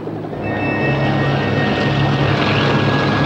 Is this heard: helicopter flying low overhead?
yes